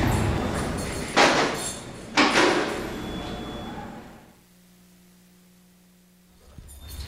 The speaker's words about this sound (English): Hold the door for 1 minute